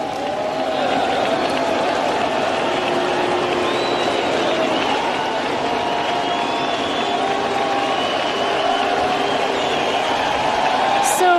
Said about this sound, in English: I mean, the cheering isn't instantaneous. And did I hear some booing in there, too?